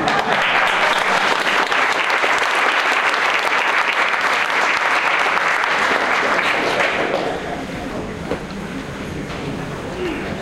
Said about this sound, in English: I always get nervous when people clap before you said anything. The first reaction is you should sit down, because it won't get any better than that.